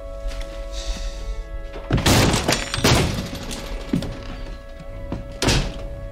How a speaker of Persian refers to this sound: درم قفله. مثل بقیه درم با لگد بشکنش.